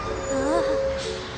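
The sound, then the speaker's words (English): Tayo the Little Bus slows carefully to a stop at a bus stop with a steady, high brake squeal and a brief hiss of air near the end, set against a low engine rumble. “Oh, I see a bus stop! Careful, careful, slowly.”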